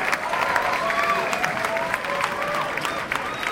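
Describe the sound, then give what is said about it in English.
A crowd applauds steadily for a few seconds, a dense wash of clapping with scattered cheers and whoops rising over it, holding at an even, fairly loud level throughout. The crowd is cheering two performers as they are introduced. “That's the right response. You gotta cheer for them.”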